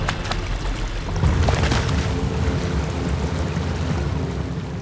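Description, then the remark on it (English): Water sloshes and splashes steadily, with a burst of heavier churning about a second in, as a person is helped into a basin of water surrounding a spring. No voices. “Merope helped Sisyphus into the basin of water that surrounded the spring.”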